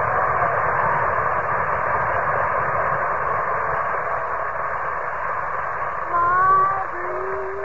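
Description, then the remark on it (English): The engines of a large United Airlines plane warm up in a steady, loud droning hum, with a brief rising whine near the end as the engines rev. No voices are heard. “That big United Airlines plane is all warmed up, ready to take Bob and the cast on his personal appearance tour.”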